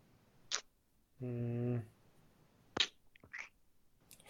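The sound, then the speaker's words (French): A voice imitates a ticking clock as a quiz answer countdown, with a few sharp, irregular tick sounds broken by a short sustained hum partway through. The sounds are fairly quiet. “Tic-tac, tic-tac, Oh!”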